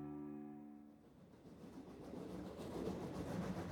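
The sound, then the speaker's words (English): A train carrying President-elect Franklin Pierce rolls along the rails just outside Andover, Massachusetts, in January 1853, with a steady, rising rumble and rattle, opening with a brief sustained horn-like tone that fades as the clatter builds. No voices are heard. “President-elect Franklin Pierce sits in a train car next to his wife, Jane.”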